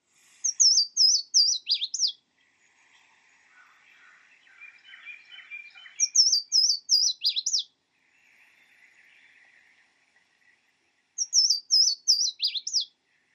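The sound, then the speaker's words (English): A Louisiana waterthrush sings three loud, ringing phrases of clear downslurred whistles ending in a jumbled twitter, each separated by a few seconds of softer chatter. “Here is an example of the water thrush song from the Sibley Birds app for iPhone.”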